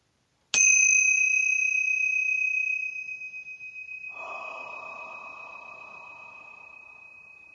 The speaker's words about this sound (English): So I'm going to ring the Tingsha bells to create a pure sacred space for trance channeling today.